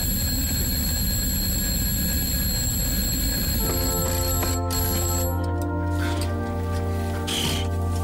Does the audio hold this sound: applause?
no